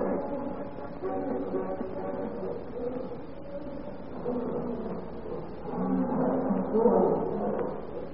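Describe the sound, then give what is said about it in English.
A cat named Nemo growls low and steadily for several seconds, a rough rumbling drone that swells a little louder near the end, with no other clear sounds around it. “Stop that growling.”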